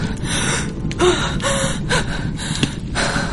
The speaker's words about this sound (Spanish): Aguantó la respiración todo el tiempo posible, hasta que el pánico se apoderó de ella y tuvo que jadear para poder respirar.